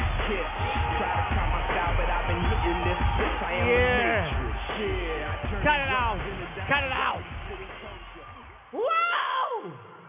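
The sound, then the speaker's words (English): A live concert crowd in LA roars and cheers loudly and steadily, with whoops and yells rising over the din, before it briefly drops and a single excited shout cuts through at the end. “Give yourselves another round of applause, man.”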